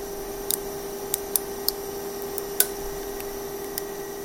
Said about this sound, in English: Now, here's what a plastic gyroid with thin walls sounds like under pressure.